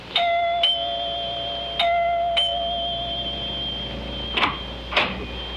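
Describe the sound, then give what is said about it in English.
Dr. Lem Regan rings the doorbell of Clyde Wilkins' house: it chimes twice in quick succession, pauses, then rings two more times, its bright tones lingering and fading, followed by a couple of sharp clunks. No one speaks. “It is the next morning, and Dr. Lem Regan rings the doorbell of Clyde Wilkins' house.”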